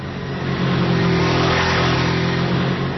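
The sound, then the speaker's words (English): A motorcycle engine revs loudly, a sustained throaty roar that swells slightly in the middle and holds steady for about three seconds, with no voices. “If you love motorcycles, you need to call Geico.”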